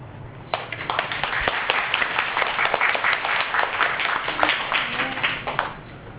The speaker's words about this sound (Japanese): 皆様に大きな拍手を送りたいと思います。